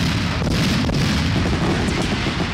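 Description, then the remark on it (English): A dense, rumbling barrage of booming fireworks explosions from a sound effect, loud and continuous, with deep low-end thuds and a few sharper cracks cutting through; no voices. “That one's called Mondo Fireworks.”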